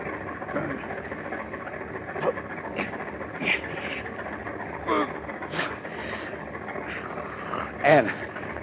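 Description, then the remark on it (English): A car engine, started in a closed garage, idles with a steady, low mechanical rumble that holds throughout, broken by occasional brief knocks and clicks, with faint muffled voices underneath. “Tonight, when it's dark, we get rid of their bodies in their car. Start the motor.”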